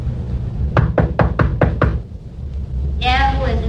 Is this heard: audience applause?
no